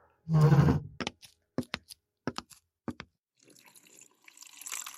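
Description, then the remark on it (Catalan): Water is poured into a glass: a brief gush, a few light clinks and taps, then a soft, steady trickle as the pour finishes. Nobody speaks. “Podries acostar-me un got d'aigua? Freda?”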